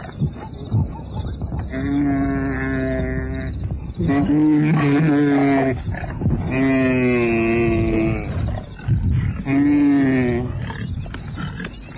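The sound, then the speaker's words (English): A lioness growls loudly in a series of long, drawn-out, moaning snarls, with raw rumbling in between and no voices, as she attacks a wildebeest, bringing him down and biting, scratching and tearing away his flesh. “As he moves too slowly, the lioness jumps up at his flanks and brings him down. She's biting, scratching, tearing away the flesh.”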